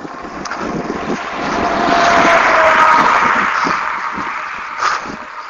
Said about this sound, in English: A hog truck. I don't think it had any pigs on it, but blew the horn at me. I don't know if he was telling me to get out of the way or here I come. But I threw my hand up and thanked him.